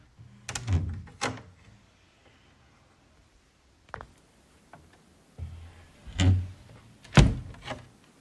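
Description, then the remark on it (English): A wooden confessional door slides and clunks open in several bursts of knocks and rattles, with quiet pauses between, the loudest thuds landing near the end. No one speaks. “Well, if you aren't going to say anything, open your door, Father.”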